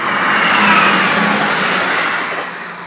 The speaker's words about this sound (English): Another train coming through. Hang on a sec.